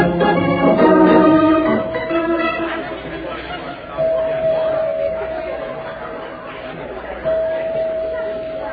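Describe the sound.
A busy indoor crowd of Christmas shoppers at Stacy's store murmurs and chatters continuously, many overlapping voices at moderate volume, while a steady high tone sounds briefly three times over the bustle.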